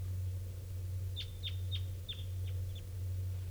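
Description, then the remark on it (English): A bird gives a quick run of six or seven sharp, high, downward-slurred call notes in an even rhythm, an unusual variant of a type 2 call, clear above a steady low rumbling drone, with no one speaking. “It's just an unusual variant of type 2.”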